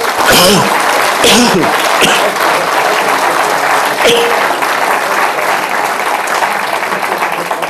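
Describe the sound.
An audience applauds steadily, a dense, even patter of clapping that fills the whole stretch at a loud level, with a few brief voice-like calls rising above it early on.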